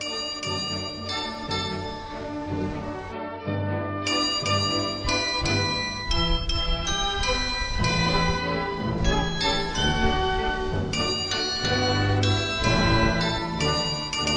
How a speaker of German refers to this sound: Jetzt haben wir vorhin ja auch schon ganz kurz das Glockenspiel gehört, das zum Beispiel mittags um 12 auf dem Hildesheimer Marktplatz gespielt wird. Wir hören da noch mal ganz kurz rein.